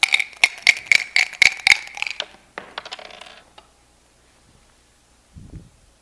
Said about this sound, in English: They picked the day by lot. They rolled some dice. In Persian words, they cast the pur, a little ceramic piece you rolled like dice to pick something at random, or by luck, or by fate, whatever you might believe in.